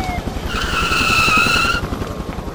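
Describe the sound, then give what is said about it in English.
A truck driven by Honey skids to a stop with a loud, high tire screech lasting about a second, over a steady low engine rumble that continues after the squeal ends. “Honey stops the truck.”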